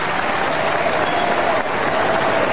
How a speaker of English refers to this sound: Well, that's Liverpool and the Labour Party conference, and rapturous applause there for Ed Miliband.